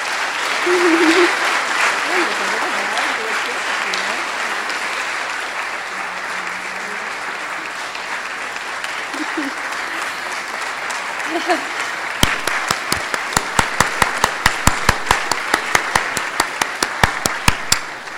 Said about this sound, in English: And so tonight we want to congratulate you on the 25 years. First of all, your clap.